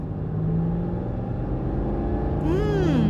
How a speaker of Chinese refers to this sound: 虽然引擎声大了点儿，这车还走得挺平稳的。